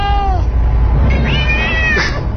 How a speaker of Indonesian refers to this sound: Aku lihat keluar jendela. Astaga, kucing-kucing itu banyak sekali, berada di halaman dan mengeong-ngeong. Aku bisa melihat mata-mata kucing itu yang menyala.